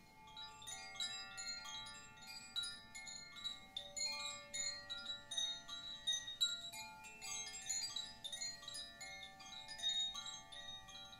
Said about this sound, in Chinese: 我们要知道的话，风铃它不是只有一种声音，不同的风铃它会有不同的声音。这个风铃区别于普通的风铃，它里面有很多个音阶，它在触碰到的时候，它会发出不一样的旋律。